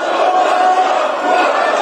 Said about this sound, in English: Members of South Korea's parliament just screaming at the podium during a session that ended by impeaching acting President Han Duck-soo on Friday